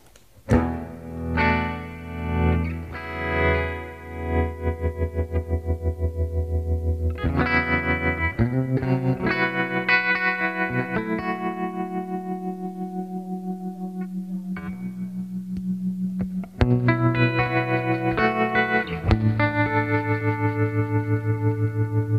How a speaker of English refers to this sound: And then there's a nice tremolo, the Flux liquid tremolo from Australia that I really like.